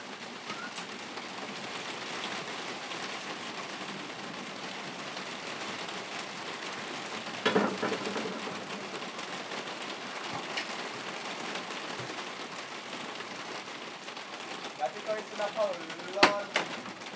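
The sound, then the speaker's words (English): Heavy rain of big, fat drops pours down in a steady, dense hiss, with a few sharper, louder splats and knocks standing out near the middle and end. “They're really big, fat drops of rain. It's not normal rain.”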